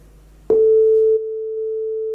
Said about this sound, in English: Too much. But that worked, okay? So we created the audio context, we created this oscillator, which creates the sine wave.